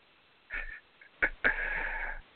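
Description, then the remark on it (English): A man's breathing heard over a phone line as he is connected to a call: a short inhale, a brief sniff-like puff, then a longer, steady exhale, all muffled and band-limited like a telephone connection, with no talking. “There he is. I hear breathing.”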